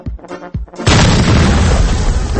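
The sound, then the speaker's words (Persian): A few faint pops and thumps come first. Then a huge firecracker explosion at an Iranian Chaharshanbe Suri celebration bursts in suddenly and keeps roaring with a loud, heavy rumble until the end. “آخه این ترقه است؟ آخه این چیه؟”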